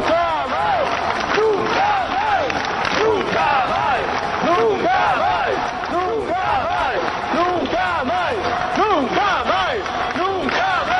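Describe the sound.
A large protest crowd of about 2,000 demonstrators called by Nunca Más in the Plaza de Quintana in Santiago, Galicia, shouts and chants slogans on a Sunday, many voices overlapping in a loud, continuous roar of rising and falling calls that carries steadily for the whole stretch.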